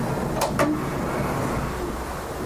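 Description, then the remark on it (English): A sliding door to a server closet rolls open with two quick scraping bursts, followed by a steady, constant hum of the server machines running. Nobody speaks. “You can open the door if you want. Just slide it back.”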